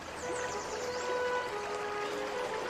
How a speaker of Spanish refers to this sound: Este agua que se escucha a lo lejos es la del río Nilo. Ah. Este río ha marcado toda la ciudad desde que se originó aquí.